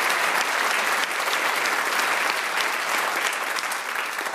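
An audience gives sustained applause for a man who told his story of performing CPR. It is a dense, steady clatter of many hands clapping at an even loudness for several seconds, with no voices standing out.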